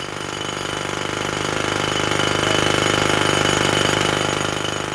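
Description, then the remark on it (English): A loud jackhammer, used to dig roads, pounds away at stone in a rapid, continuous rattle, the harsh percussive hammering sustained for the whole stretch with no voices. “When I close my eyes, I can still hear the noise of the hammer drilling, drilling and drilling the stone.”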